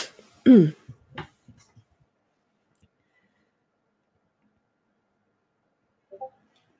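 A single sharp cough near the start, followed by a couple of softer throaty bursts, then mostly silence with a faint short sound near the end.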